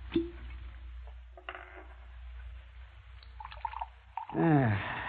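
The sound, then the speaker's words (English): A drink is poured into a glass near the end, its pitch rising quickly as the glass fills, after a few faint clinks over a low, steady background hum. “Have a drink with me.”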